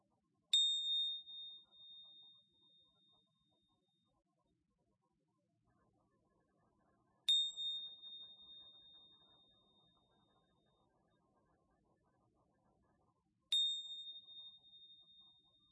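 A meditation bell is struck three times, spaced several seconds apart, marking the end of a lying-down yoga mindfulness practice; each clear ring fades slowly into near silence before the next. No one speaks.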